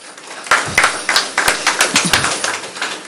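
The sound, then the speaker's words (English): A small crowd breaks into applause to welcome the Deputy Minister to give his address, a dense, steady patter of many overlapping hand claps that starts abruptly and keeps going at an even loudness, with no voices over it. “Ladies and gentlemen, with a round of applause, shall we welcome the Deputy Minister to give us his address.”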